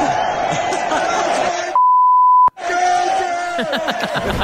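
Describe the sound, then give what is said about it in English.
A single steady, high-pitched censor bleep lasting under a second cuts off a loud, excited man's voice as he films himself at an event, saying "that's my" before "girlfriend", with shouting and crowd noise before and after it. “he films and then spins the camera around on himself and he says, that's my, we beeped it, girlfriend.”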